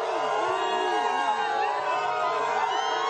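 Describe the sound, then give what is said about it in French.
An angry crowd in Mayotte, held back by police, booing and jeering the French Interior Minister: a dense, steady roar of many overlapping voices with rising and falling shouts and whistle-like cries running throughout the whole stretch. “Retenu par les forces de l'ordre, une foule très remontée, venue huer.”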